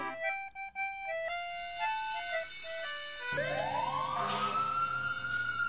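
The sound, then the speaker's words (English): A loud fire engine siren starts with quick stepped tones and then swells into a long rising wail, with no voices over it. “Sound the sirens, Nino, Nino.”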